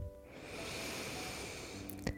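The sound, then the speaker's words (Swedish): A single long, deep inhale drawn in through the nose during a breathing exercise, steady with a breathy hiss lasting about two seconds, ending with a soft click. “Andas in igen.”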